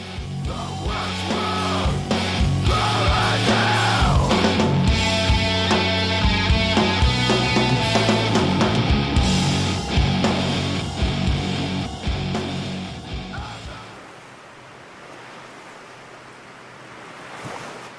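A post-metal song plays: a loud, dense wall of distorted guitars and pounding drums that sustains for about fourteen seconds, then falls away to a quieter, hissing wash of sound.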